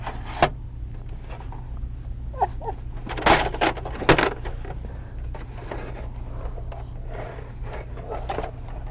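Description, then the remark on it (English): A door bumps shut and opens again, with a couple of sharp knocks and clattering handling sounds over a steady low hum. “Close the door. Boom. Open the door.”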